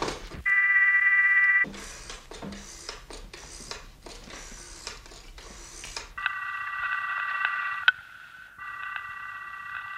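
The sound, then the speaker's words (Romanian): A telephone being dialed to call the police prefect: a brief steady dial tone, then a run of rhythmic rattling dial bursts, followed by a loud, buzzing ringing tone on the line. “Dau motiv în plus ca să-i telefonez.”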